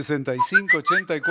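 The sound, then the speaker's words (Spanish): A little bird whistle sound effect played on a radio show: a quick run of short, chirpy whistled tones, some sliding upward, loud and sounding alongside a buzzy voice-like tone throughout. “Me puso el pajarito y no lo escuché bien.”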